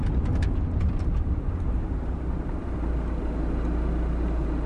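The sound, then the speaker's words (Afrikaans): A car rumbles steadily as it slows to stop at a sign in a deserted place at night, its low road and engine noise continuous throughout, with a few faint ticks early on and no voices. “Oh, wag, wag, stadiger. Daar's 'n bordjie. Stop die kar.”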